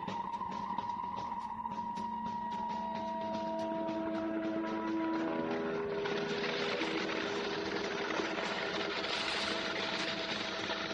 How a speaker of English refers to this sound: Watch out for the jet.